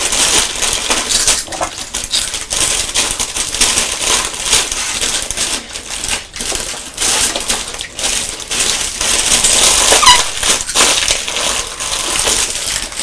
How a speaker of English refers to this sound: I'm going to put them in a clean plastic bag because the other one is covered in juice.